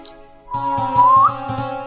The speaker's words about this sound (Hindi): सीटी तो मैं ऐसे ही मजाक में बजा रहा।